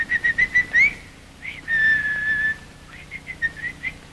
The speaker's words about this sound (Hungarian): Magának ma este fütyülni kell. Utána meghalhat, lepedőbe csavarhatják, de ma este fütyülni kell. Na, próbálja meg, na.